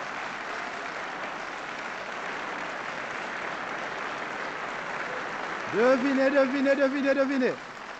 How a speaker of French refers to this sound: Applaudissements